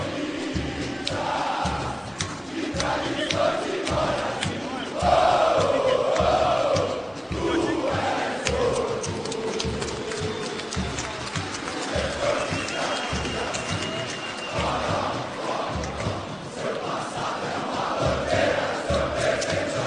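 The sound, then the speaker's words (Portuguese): A huge crowd of Corinthians football fans chants together in a stadium as players come to greet them, loud and sustained, the sung voices rising and falling over a steady, pounding rhythmic beat. “Sinta isso aqui, olha a torcida do Corinthians, cara, olha vai.”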